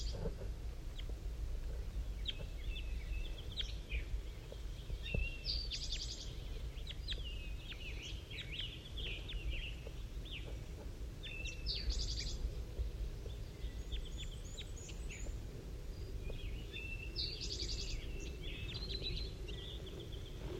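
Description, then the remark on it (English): Soft, high calls from a bird named 5-3 and two wild birds repeat back and forth at irregular intervals, short chirps and brief trills rising over a steady low rumble, with no voices. One wild bird comes in and lands in a pine tree as 5-3 calls to it. “Oh, one of the wild birds is coming in now. I just saw it land in the pine tree. 5-3 is calling to it.”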